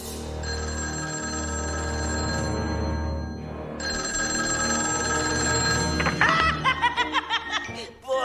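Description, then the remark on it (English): A telephone rings twice with long, steady, high electronic tones, then gives way to loud bursts of rhythmic, snickering laughter as the answering machine picks up. “So what do you think of Joker's answering machine and his whole hideout that we see in this episode?”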